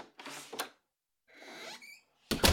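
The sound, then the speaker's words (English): The front door of a house opening: soft rustling scrapes, a brief high squeak of hinges, then a louder thud or knock at the end. No one speaks. “As I woke up in the middle of noon, I heard the front door open.”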